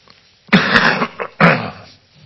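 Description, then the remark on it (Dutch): Two harsh coughs from a speaker giving a Bible talk, the first with a short rough tail and the second after a brief pause, with no talking between them. “Ja, sorry, ik moet af en toe een beetje hoesten.”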